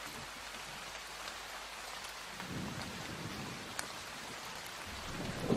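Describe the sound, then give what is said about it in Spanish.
A rain-and-thunder recording from a sound app: steady rain hisses across the whole stretch while a low, rolling rumble of thunder swells in the background, growing heavier toward the end; no voices. “O sea, este es lluvia con trueno, como más real.”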